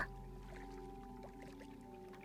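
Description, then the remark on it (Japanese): Sea waves wash continuously for a couple of seconds at a steady, moderate level, with a low, even hum running underneath and no voices. “波の音を聞きながら、”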